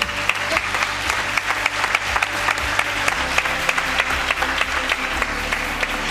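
A crowd applauds steadily, dense overlapping claps forming a continuous wash of sound with sharper individual claps popping out, sustained at an even loudness throughout without any speech.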